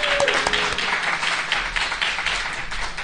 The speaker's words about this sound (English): So, how about a little round of applause for the Laughing Buddha people?